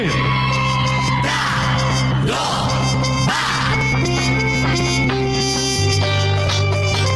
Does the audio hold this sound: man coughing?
no